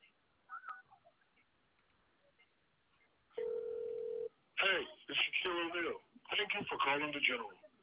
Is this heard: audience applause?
no